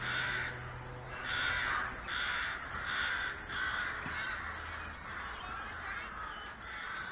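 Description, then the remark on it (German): A large flock of crows in the sky caws repeatedly in a steady series of harsh calls, several birds overlapping, moderately loud against a soft outdoor background with no speech. “denke ich wieder über den grossen Krähenschwarm am Himmel nach.”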